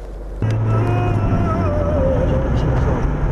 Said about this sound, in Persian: با ماشین اوپل نیمویران خود هر روز ده ها بار خیابان مرکزی دوشنبه را عبور میکند. هدف این زنی بازنشسته سیر و گشت نیست، او با ماشین اوپلش کار میکند، به قول تاکسی میزند،